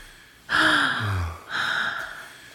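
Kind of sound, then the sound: human body sound, sharp gasp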